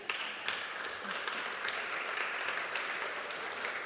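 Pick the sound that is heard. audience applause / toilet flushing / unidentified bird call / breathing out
audience applause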